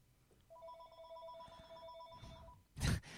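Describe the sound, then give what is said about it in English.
A telephone at a radio station rings with a steady two-tone electronic trill lasting about two seconds, fairly clear, followed by a loud thump or clatter near the end. “And someone's calling again.”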